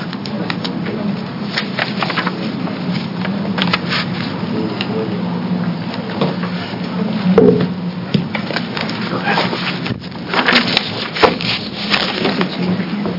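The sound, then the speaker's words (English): Chairs scrape and shuffle across the floor at a committee hearing in irregular bursts, with scattered wooden knocks and rubbing sounds over a steady low hum and faint background murmuring. “Yeah, we chairs keep moving around.”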